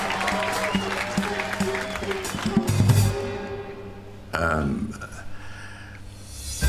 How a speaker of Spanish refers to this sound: Hay sangre fresca esta noche. Demos un fuerte aplauso